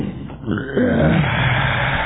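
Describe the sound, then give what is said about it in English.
A long, deep belch rumbles for about two seconds, loud and gravelly with a low, throaty pitch that swells partway through and holds steady to the end, with no talking. “Oh, that was a kind of a belch one.”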